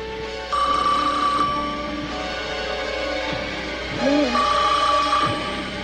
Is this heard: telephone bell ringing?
yes